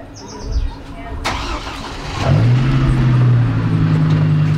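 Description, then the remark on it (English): A car engine cranks and catches about halfway through, then settles into a steady, low idle as a small caravan of cars departs from rural Redding, California, on a mild June day in 2018. A faint bird chirp and a sharp click come just before it starts. “On this mild June day in 2018, they organize food and supplies before taking off.”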